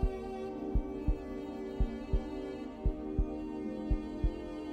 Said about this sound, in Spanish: Y que sientas y escuches el latido de tu corazón.